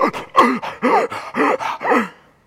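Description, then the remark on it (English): A voice imitates gasping for air as if surfacing from water: about six quick, loud, breathy gasps in a steady rhythm, with no other talk. “I stuck my head up above the water and I'm gasping.”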